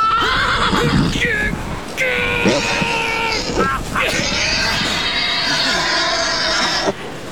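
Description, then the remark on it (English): A horse that has fallen into a gully about 12 feet deep, pinning its rider and breaking a leg, whinnies loudly in a long series of strained, shrill cries, pausing only briefly between them, with a distressed, pained edge throughout. Icy sleet is driving down. “Help get this horse off me, will you?”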